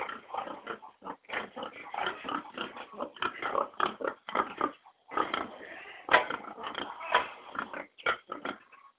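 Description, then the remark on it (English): Six pigs being raised for bacon grunt and oink in a pen in a steady, overlapping stream of snorts and squeals, fairly loud, with no one speaking. “Stop by to see the pigs.”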